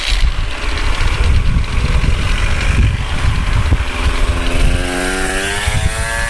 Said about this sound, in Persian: از این موتورام تو هلند هست، فکر نکنید که از اینایی نیست. آره از این موتور قرازه ها.